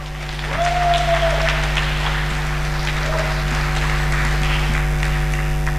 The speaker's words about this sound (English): So give him a warm round of applause and let's hear what he has to say.